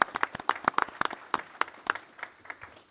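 A short round of applause from a small group at a board meeting, brisk and irregular claps that start dense and gradually thin out over about three seconds, with no talking.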